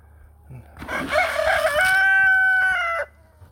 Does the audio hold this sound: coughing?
no